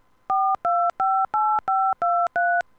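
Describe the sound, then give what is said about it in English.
Seven quick touch-tone keypad beeps dial a home phone number into an automated Marriott reservations phone line, each a steady dual-pitched tone separated by brief gaps, loud with no voices. “Please enter your home phone number, beginning with...”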